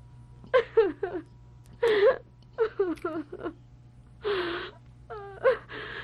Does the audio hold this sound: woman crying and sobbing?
yes